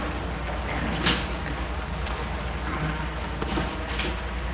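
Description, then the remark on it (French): A man gets out of his car, stopped in front of a house on boulevard des Belges in Lyon in the early morning before full daylight: a car door clicks open and thumps shut amid rustling movement, with a few more soft knocks and shuffles, moderately loud. “Il sort de voiture.”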